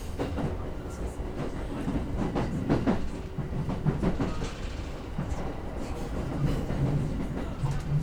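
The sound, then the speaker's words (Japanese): A commuter train rolls steadily along the rails, a continuous low rumble broken by clacking wheel beats and faint metallic squeals, heard from inside the carriage as it approaches Shinjuku, its final stop. “まもなくこの電車本日の終点新宿となります。”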